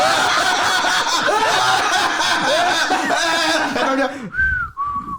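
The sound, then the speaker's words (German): Busy, wavering whistling mixes with snickering laughter for several seconds, then two short, clear whistled notes ring out alone at the end, fairly loud. “Ich höre dieses Pfeifen”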